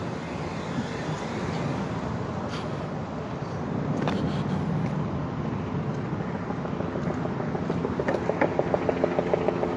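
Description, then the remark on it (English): Helicopters drone overhead above a city, a steady broad rumble blending with traffic noise, and a rhythmic rotor thumping grows clearer toward the end. “And you can probably still hear like the helicopters.”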